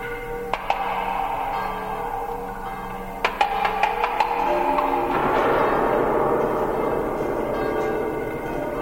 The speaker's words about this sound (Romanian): Zidari încearcă glasul clopotelor vestind depărtările că e gata biserica. Câte clopote, Din voi alte biserici răspund, parcă ar fi pornit toate ca o turmă peste munți.